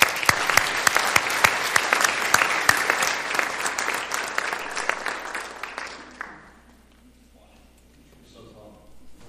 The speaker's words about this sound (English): Can we give one more applause?